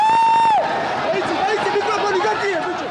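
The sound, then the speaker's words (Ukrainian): A brief, steady whistle-like tone opens, then a large crowd of opposition supporters erupts into continuous joyful cheering and shouting, loud and dense throughout, as Georgia's president resigns during the Rose Revolution on 23 November 2003. “Його політична кар'єра раптово закінчилася 23 листопада 2003 року, коли він був змушений піти у відставку на хвилі грузинської революції «Троянд» під радісні вигуки опозиціонерів.”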